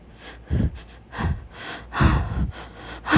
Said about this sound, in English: So exhausted, panting, crying.